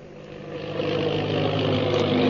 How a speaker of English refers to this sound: The plane bearing the Purple Triangle insignia roars through the sky.